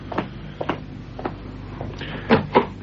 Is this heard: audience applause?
no